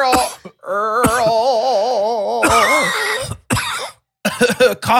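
Loud, close coughing comes in several harsh bursts, broken up by a long wavering groan, with a rapid cluster of coughs at the end and no speech.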